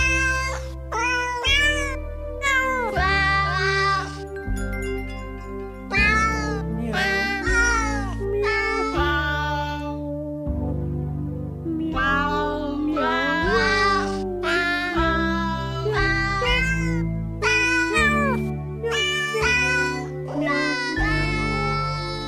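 Cat meows pitched and edited into a festive melody, each meow landing on a note over a steady bass accompaniment, loud and continuous like a novelty Christmas song sung entirely by cats.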